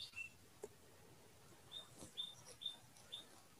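Birds chirp outside at the end of a meditation session, a few short, high, thin chirps spaced about half a second apart, fairly faint against an otherwise quiet background with no talking.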